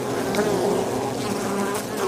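A dense, steady hum of many bees buzzing together around a beehive, a continuous droning swarm with no talking.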